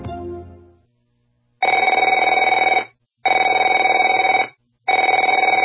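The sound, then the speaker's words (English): A telephone rings in three loud, evenly spaced bursts, each a rapid trilling bell tone lasting just over a second, after a brief low sound fades out at the start. “Afraid to answer it?”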